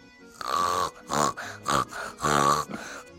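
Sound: pig grunting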